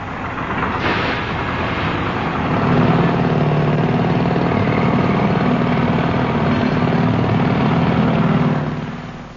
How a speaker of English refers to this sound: Teams, I shall shortly play in a sound recording of some well-known roadworks, which I'd like you please to identify. All right, well, here they come now.